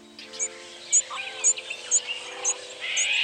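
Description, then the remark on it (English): Short, high chirping flight calls of migratory birds in the sky repeat at a steady pace, about six in a row, over a faint hum and a soft airy background with no voices. “But for migratory birds, the sky is a street, and the sonic experience of that space is embodied and social, buzzing with the chatty communication of flight calls.”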